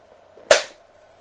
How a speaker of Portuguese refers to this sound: Espera que eu vou matar o mosquito aqui antes que ele acabe com a minha aula. Fugiu.